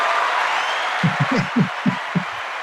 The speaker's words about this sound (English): We got to give you some applause.